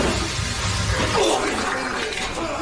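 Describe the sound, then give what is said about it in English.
A wet, sputtering fart lasting a couple of seconds, steady and fairly loud, with a gurgling, splashy texture and a brief dip in pitch midway. “It's a real watery one.”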